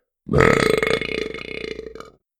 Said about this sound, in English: One gave them a slightly painful back massage, and another let out a loud belching sound.